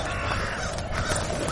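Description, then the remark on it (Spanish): A dense chorus of many crows cawing at once, harsh overlapping calls from a large flock forming a continuous loud racket with no pauses. “Son cuervos. Y son muchos.”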